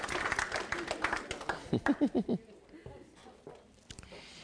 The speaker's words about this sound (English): Can you give him a hand clap for passing all those out? Sacrificing his life. Hallelujah.